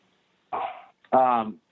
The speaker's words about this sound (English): There's only so many places I can go to record, and they'll just come in there and bark too. That's okay. What are the names? Lucky and Lewis. Lucky and Lewis. Lucky's the one barking.